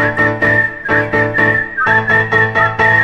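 Someone whistles a wavering, high melody over a rhythmic instrumental backing with a steady beat and deep bass, the tune holding long notes and sliding between them. No one speaks.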